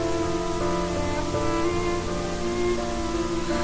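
Steady rain patters against windows, a dense, even hiss that holds throughout, with soft sustained musical tones layered underneath and no voices.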